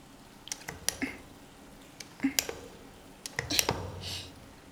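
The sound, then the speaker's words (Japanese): Foam being lathered into sticky hair: irregular wet squishes and sharp little crackling clicks, with a few soft hissing bursts of bubbles, all fairly quiet and unhurried. “じゃあべったりくっついたこの髪泡立てていくわよ。”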